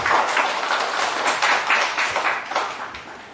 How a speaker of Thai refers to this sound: ผมก็ขอเสียงตบมือต้อนรับคุณหมอที่นี่นะครับ